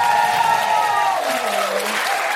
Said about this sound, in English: And a huge round of applause for my incredible co-pilot,